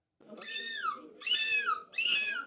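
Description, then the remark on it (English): A person imitates a screeching seagull at the fifth annual European Gull Screeching Championship, with three loud, harmonic squawks, each starting high and sliding down in pitch, separated by brief pauses. “This was the fifth annual European Gull Screeching Championship, attracting 60 seagull sound-alikes from 14 countries.”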